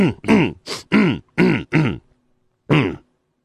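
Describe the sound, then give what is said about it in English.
Someone clears their throat loudly: five quick, gruff bursts in a row, a short pause, then one last rasping clear. No words are spoken. “Let me clear my throat.”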